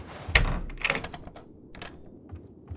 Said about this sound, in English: Hold on, the front door is just blown open.